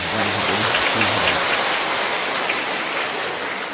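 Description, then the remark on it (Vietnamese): A dense, steady round of applause from a crowd of Buddhist followers at a retreat, loud and sustained throughout, with many hands clapping together into an even crackling roar and no voices heard, given to honour the merit and grace of a venerable monk. “Xin giờ này thì chúng ta cũng hoan hỷ trân trọng cái công đức, cái ân đức của hòa thượng, một tràng pháo tay.”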